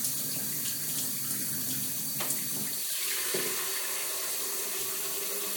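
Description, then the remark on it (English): A hot and cold kitchen tap, fierce even when hardly turned on, gushes in a steady, loud hiss of running water while filling up, with the splashing tone shifting slightly partway through as the stream hits the sink. No one speaks. “Now the hot, cold tap in this kitchen is really fierce.”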